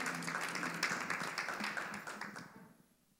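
A crowd applauds a guest for her work with the organization Saving Grace, with dense, overlapping hand claps that stay steady for a few seconds, then thin out and fade away, with no voices over them.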